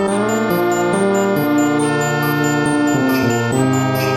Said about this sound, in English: And I love how the there's these sort of, I don't know, sleigh bells or something that are used very sparingly, you know. Right here.